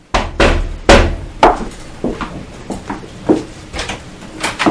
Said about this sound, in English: Meanwhile, in a small family home, a mother sits reading her newspaper when she hears a knock on her door.